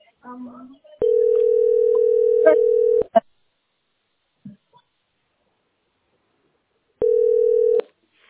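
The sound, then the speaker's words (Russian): A telephone ringback tone while calling the company Teploenergosbyt SPB after its automated phone menu: a steady, mid-pitched hum lasting about two seconds, then a long silence before a second, shorter burst of the same tone. A few faint murmurs precede the first. “Звоню.”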